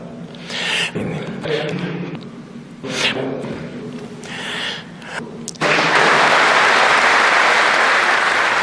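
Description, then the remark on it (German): Breathing and mouth noises between speech, a longer take in an art project: a series of sharp inhaled breaths, gasps and small lip and mouth clicks with no words, then a loud, steady rushing noise takes over for the final few seconds. “Also sprich, das Luftschnappen, das Räuspern, das Schmatzen, das Lippen befeuchten und all diese Sachen, die eigentlich im Hintergrund jeder Rede sein sollten.”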